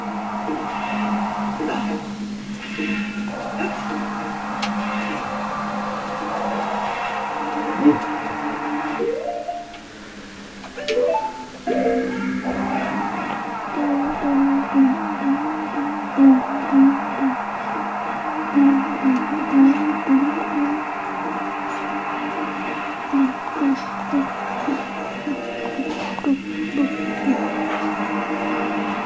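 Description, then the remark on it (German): A fan runs steadily throughout, its continuous whirring hum filling the room, with a faint, regular ticking in the latter half and occasional muffled background voices. “Was muss er jetzt machen? Warten, bis der Ventilator aufhört.”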